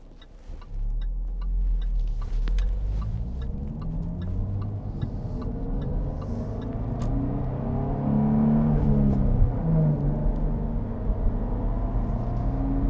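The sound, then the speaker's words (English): A car engine revs up to about 4,000 rpm, its rising harmonic whine climbing steadily in pitch over a constant low rumble, then settling back, with faint ticking clicks scattered throughout; no one speaks. “Right about 4,000. That's when it sounds good.”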